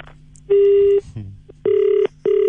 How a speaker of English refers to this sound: Sorry, I don't know what's going on with the phone system here. I slammed the phone in your face because you That's what happened.